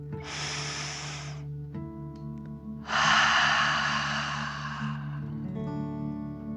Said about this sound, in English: Breathe in through your nose, filling up your belly, and then out through your mouth, pretending you are breathing fire. Ready? Deep breath in and out.